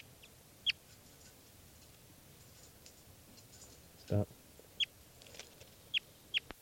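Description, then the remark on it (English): Bird number 400, being handled, gives a handful of short, sharp, high-pitched clucks at irregular intervals over a low background hiss, with one brief spoken word partway through. “Handling bird 400.”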